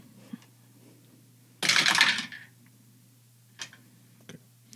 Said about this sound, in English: What? I just roll my dice sometimes. You don't need to look at me like that. It's the rolling of the dice that makes me give you that look. Yes. These are D20s.